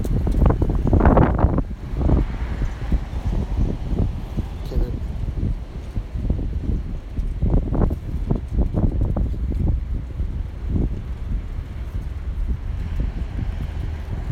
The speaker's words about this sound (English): Now I am. This is how windy it is. And keep in mind, part of the wind is being blocked by the house. I'm trying to block a lot of the wind from actually hitting the microphone, but trying to let you guys hear.